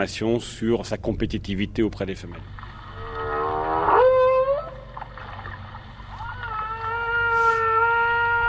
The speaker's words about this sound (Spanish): Y hay cosas que aún no sabemos sobre los cantos de las ballenas. Los llamamos cantos porque las ballenas emiten vocalizaciones con una frecuencia regular, con frases de 4, 5 o 6 vocalizaciones en bucle durante 15 o 20 minutos.